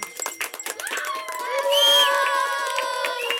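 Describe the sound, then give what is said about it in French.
A crowd of spectators at a finish line claps and cheers for arriving cyclists, sharp scattered applause at first swelling into sustained, loud whoops and shouts from many voices. “Quand ils nous ont vus arriver, les spectateurs ont applaudi et nous ont encouragés.”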